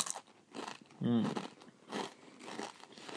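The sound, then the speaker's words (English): Loud crunching of a crisp snack being chewed, with bursts repeating roughly every half second and a brief voiced murmur partway through. “With a proper crunchy noise.”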